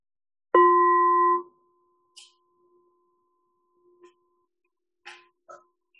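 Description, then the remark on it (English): A meditation bell is struck once during a guided meditation, ringing loud and pure before its tone drops sharply and lingers as a long, faint hum fading into quiet, with a few soft clicks afterward. “Just listening to the sound of the bell.”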